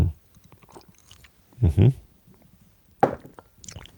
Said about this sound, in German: Na, warte mal, bevor ich vorlese, trinke ich lieber noch einen Schluck, damit meine...